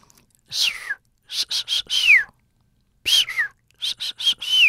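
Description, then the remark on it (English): A dolphin's signature whistle repeats in two clusters of short, high, breathy whistles, several ending in a downward-gliding sweep, fairly loud with brief silences between. “But what they do know is that each dolphin seems to have its own kind of signature whistle.”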